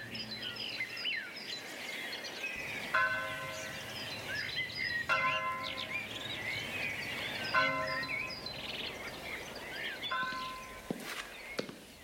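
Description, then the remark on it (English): Church bells ring out in a series of resonant strikes, each tone lingering and overlapping, over a busy background of chirping birds and faint ambient bustle. “The Bells.”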